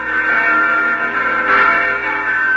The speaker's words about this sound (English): There are the church bells. They have a special joyousness tonight, as all church bells seem to have on Christmas Eve.